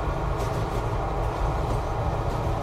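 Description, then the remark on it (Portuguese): A train rumbles steadily along the rails, a loud, continuous low roar with faint rattling, heard from inside a train carriage as the carriage door opens, with no voices. “A porta do vagão do trem se abriu e o barulho dos trilhos e o zumbido das conversas lotaram.”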